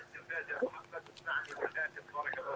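A television plays in the background during a caller's phone call, its muffled, tinny voices rising and falling continuously at a moderate level, with no clear words coming through.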